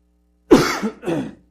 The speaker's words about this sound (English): Again, I apologize for the coughing. I wish I could do something about it, but I do not seem to be able to.